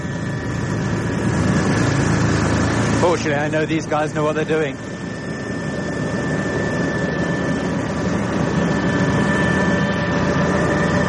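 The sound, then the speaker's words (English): A loud, steady helicopter engine roar fills the whole recording as the helicopter descends to land on a small helicopter pad at a lighthouse, droning evenly with a faint whine on top, while a man speaks briefly over it near the start. “Coming down now, the helicopter pad seems incredibly small.”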